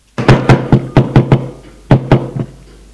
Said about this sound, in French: L'on frappe à la porte.